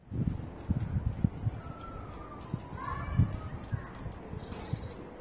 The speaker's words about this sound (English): Neighbors cleaning their carpets.